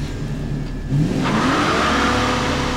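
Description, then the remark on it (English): An El Camino's engine idles with a low rumble, then revs hard and climbs in pitch as the car accelerates away along a dirt road toward the highway, growing louder and rougher over the last couple of seconds. “The agents of the Divinity ran after us, but quickly disappeared from my rear view as I drove through the dirt road back for the highway.”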